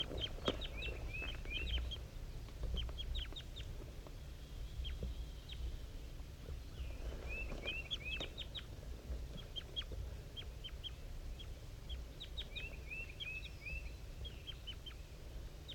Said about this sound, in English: It's 7:50 a.m. and 5-3 and the wild bird are communicating here. 5-3 is a little bit higher pitched and the wild bird is a little bit lower. Up in the top of the dead pine.